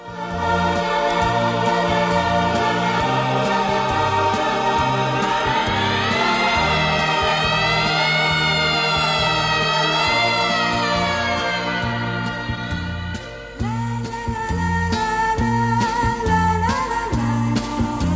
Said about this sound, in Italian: Mi ricordo che il nostro discorso fu interrotto da una sirena che correva lontana chissà dove. Io ebbi paura perché sempre, quando sento questo suono, penso a qualcosa di grave.